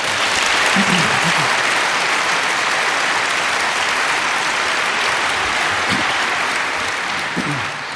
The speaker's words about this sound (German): Und ich bin immer begeistert, wenn ich höre, was dieses Projekt Chaos macht Schule auf die Beine stellt, wie viele Menschen dort beteiligt sind. Und ich denke, das ist wie jedes Jahr einen Applaus wert an alle, die sich dort beteiligen.